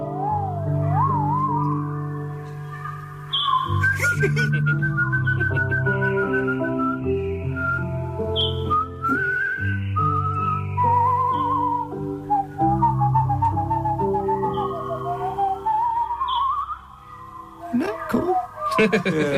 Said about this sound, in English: So there'll be some bird watcher out there that will know, some twitcher that will know who actually what type of bird that actually is. But I think my memory serves me correct. It was a robin.